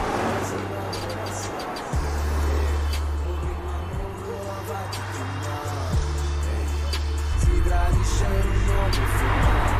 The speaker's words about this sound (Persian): تو ماشینه، داره میره.